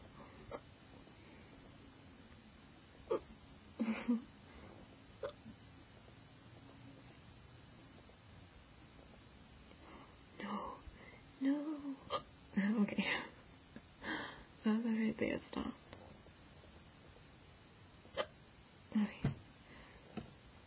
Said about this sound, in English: I try to appreciate my hiccups as often as I can.